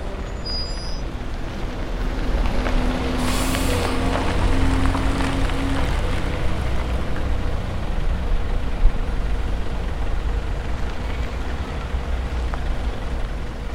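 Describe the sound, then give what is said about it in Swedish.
A large old, rusty bus idles on a street with a steady low engine rumble, and a sharp burst of air-brake hiss cuts through as it comes to a stop. Nobody speaks. “När han vänder sig om ser han att en buss har stannat på gatan bakom honom. Den låter gammal och rostig.”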